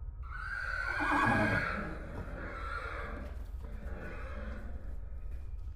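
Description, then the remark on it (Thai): A large black horse whinnies loudly, a long shaky neigh peaking early, followed by heavy breathy snorts that trail off over the next few seconds, with no one speaking. “แต่ผมยังรู้สึกถึงแรงสั่นสะเทือนจากฝีเท้าของม้าดำตัวใหญ่ที่กำลังเคลื่อนที่ใกล้เข้ามาไม่นานผมได้ยินเสียงลมหายใจหนักๆของม้าที่ดังชัดจนกลบเสียงอื่นๆ”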